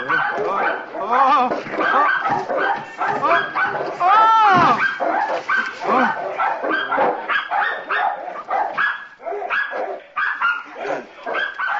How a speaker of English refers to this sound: Oh, that's just the dogs barking.